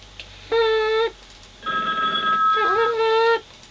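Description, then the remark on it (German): A telephone rings with two bright electronic tones, a short burst followed by a longer one that briefly warbles in pitch, loud and close with no talking. “Sie haben jetzt Ihre Chance, bei uns telefonisch durchzukommen und zu sagen, wer der Mörder ist! Bitte rufen Sie jetzt an!”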